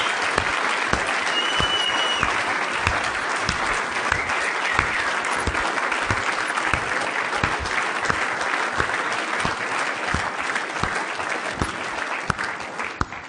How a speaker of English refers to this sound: Can anybody whistle? Can we hear some whistles? Some more whistles?